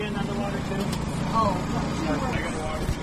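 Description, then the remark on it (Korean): A steady machine hum drones low and continuous throughout from a food truck, one of a long line of food trucks on the National Mall in Washington, DC, with a voice talking over it. “이 화물차여서 이런 기계 소리가 들리기도 하는데요.”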